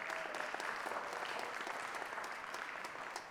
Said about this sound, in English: Let's also, we don't do this every week, but also very important. Let's give a round of applause for our tech team. They do such a good job.